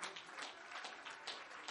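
A large audience at a church service claps their hands to the Lord in a dense, steady wash of applause. It is fairly soft, with no voices standing out.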